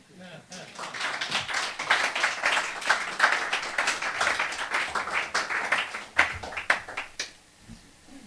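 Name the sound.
audience applause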